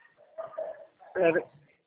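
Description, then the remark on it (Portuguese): A dog barks in the background: a few softer, drawn-out yelps first, then one louder, sharper bark near the end, with quiet gaps between them. “Tem um cachorro que está enchendo o saco.”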